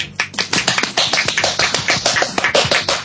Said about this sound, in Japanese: 拍手する必要は全くないけど、しないとやってられない感じだよね、 うん、一応僕は期待に胸を弾ませている感じの拍手です。